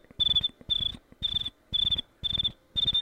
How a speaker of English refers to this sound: Oh, what's with my crickets today? They're not working.